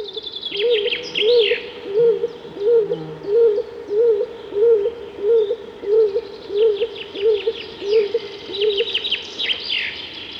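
A stock dove coos in a steady, rhythmic series of low, soft notes repeated over and over in a quiet stretch of forest, with faint chirps from small birds in the background and no talking.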